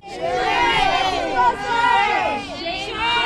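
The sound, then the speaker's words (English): About a dozen protesters yell and chant over one another as a man walks past them leaving Stanford Superior Court, a steady, overlapping clamor, loud and continuous for a few seconds, with no single voice standing out. “About a dozen protesters yelled and chanted as von Kaiserling walked past them in sunglasses and a trench coat as he left Stanford Superior Court.”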